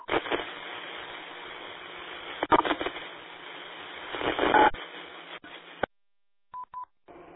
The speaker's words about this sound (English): Feel free to continue discussions on this repeater. Stand by for tones.